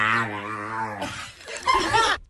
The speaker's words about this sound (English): But it's a UK Bull Terrier gaining fame. Oh, look at that. After his master taught him how to say hello. Do we have the audio of the dog barking?